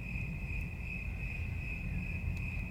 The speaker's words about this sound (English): No car ever comes down here. No one comes down here. This is a fucking dead zone. All you can hear are crickets and the leaves just gently rustling.